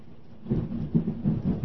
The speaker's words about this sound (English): You hearing the thunder? There's the hail.